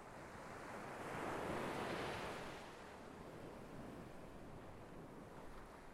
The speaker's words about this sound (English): There's nothing quite like falling asleep to the sound of the crashing surf in the distance.